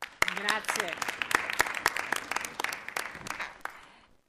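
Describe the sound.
Applause in an assembly hall: a crowd clapping steadily, with sharp individual claps standing out over a dense patter, and some voiced sounds mixed in near the start before it thins toward the end.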